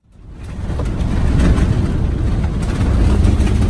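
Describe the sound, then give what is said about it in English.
A loud, steady roar of brush fire flames lashing against a rescue truck in Australia, rising quickly at the start and then holding a dense, rumbling rush of noise throughout, with no voices. “Flames lashing a rescue truck in Australia, where brush fires have claimed at least 12 lives since October.”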